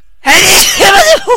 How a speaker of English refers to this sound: Bless you.